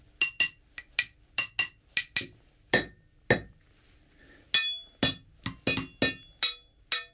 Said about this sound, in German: Das zentrale Arsenal von Schlagwerkstücken besteht aus Kleinmetallteilen von Zügen und Gleiskörpern. Ich habe hier vier Stück mitgebracht und werde jetzt vorsichtig spielen.